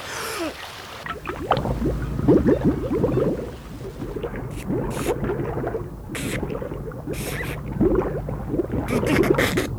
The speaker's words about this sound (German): Dann lief er zum See, holte tief Luft und glitt ins Wasser.